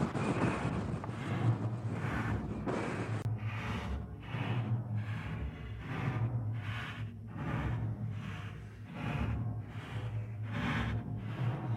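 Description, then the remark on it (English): Howling blizzard wind on Public Square, strong enough to take one's breath away, roars steadily beside a wrecked bus shelter, with strong gusts buffeting the microphone in repeated, pulsing surges every second or so; no one speaks. “Do you ever remember using the term blizzard before?”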